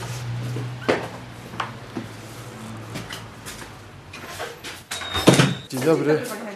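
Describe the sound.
On a cold day, a door of the regional office of the Polish Association of the Blind, in a courtyard, opens as people enter, with a few clattering knocks and a scraping, squeaky swing, followed by a louder bang near the end, with people talking faintly in the background.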